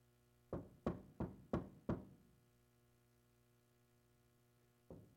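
Five firm, evenly spaced knocks on a door in quick succession, then a pause and one more knock, with a steady low hum in the background and no talking.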